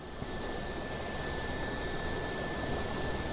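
helicopter engine and rotors

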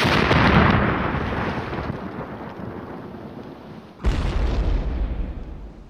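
explosions

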